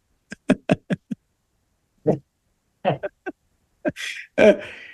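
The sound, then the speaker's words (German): Someone blows their nose: a scatter of short soft rustles and snuffs, then a loud, breathy, honking blow near the end that trails off. No one speaks. “Ja, den mal kurz die Nase putzen, genau.”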